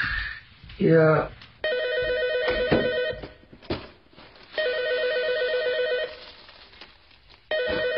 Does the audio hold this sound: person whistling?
no